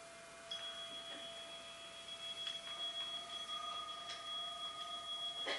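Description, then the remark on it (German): A meditation bell, rung to start a five-minute meditation, rings out with a clear, sustained metallic tone that hums steadily for several seconds, its bright overtones lingering over soft background hiss with a few faint clicks. “Jeder fertig zum Klingeln?”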